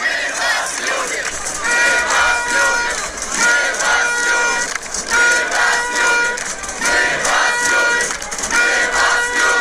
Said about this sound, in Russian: Ну, вы понимаете, друзья, что это не ОМОНовцы кричат «Мы вас любим», да? Это люди, которые стоят напротив ОМОНа, так стенка на стенку, и они кричат «Мы вас любим».